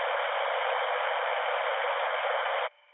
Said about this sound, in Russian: Да, присутствует. Значит, какая-то внешняя помеха. Что-то я сейчас слышал, вроде там даже какая-то модуляция проходила, что-то такое было. Там еле-еле заметно.